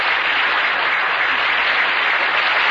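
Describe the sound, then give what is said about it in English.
Steady, dense applause from a large crowd fills the whole moment at a loud, even level, a continuous wash of clapping with no voices standing out, like a studio audience track. “Maybe he wrote applause.”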